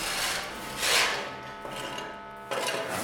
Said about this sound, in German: Ja, Fußboden schleifen, Wände schleifen, Decke vorbereiten, dann Wasser hinterher. Grob- und Feinreinigung.